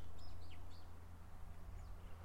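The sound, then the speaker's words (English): A few faint, high chirps from small birds far off, scattered in brief bursts over a steady low rumble of background noise, with no one talking. “I'm hoping you can hear these little birds in the distance.”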